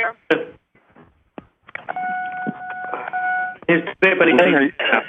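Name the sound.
cell phone beeping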